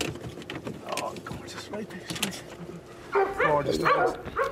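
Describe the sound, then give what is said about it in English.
A dog named Jack, one of five dogs rescued in County Monaghan, barks in short bursts, then breaks into a run of high, whiny whimpers and yelps that grow louder toward the end, with faint background noise throughout. “This guy here now, he was one of five dogs that I rescued down in County Monaghan.”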